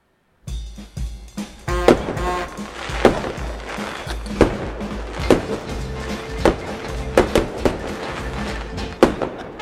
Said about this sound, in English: We got the fireworks to celebrate. We're all ready to go. Honest to God, when I heard that first firework, I'm like kind of ducking these days.